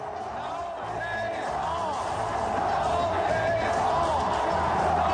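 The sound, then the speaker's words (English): A large crowd roars steadily, a dense wash of many voices with scattered shouts and whoops rising above it, growing slightly louder toward the end. “Does the crowd get off on it?”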